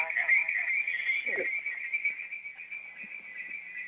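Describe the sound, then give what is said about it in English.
A cell phone rings with a continuous, warbling high electronic tone that holds steady and fairly loud for about four seconds, with faint low murmurs underneath. “That was my phone.”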